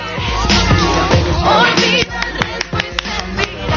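Applause from a group at the end of a TV programme, given for a member of the show, a dense burst of clapping that thins out after a couple of seconds into scattered, sharp individual claps, with some tonal sound underneath.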